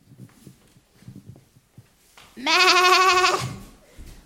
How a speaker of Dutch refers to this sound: Kijk daar, allemaal schapen, ze komen van het veld.